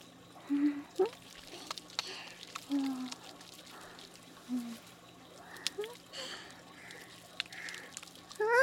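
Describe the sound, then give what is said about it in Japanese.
Soft wet squelching and foamy crackling as shampoo is worked into a lather between hands, steady and gentle, with a few brief quiet vocal murmurs over it. “泡立て”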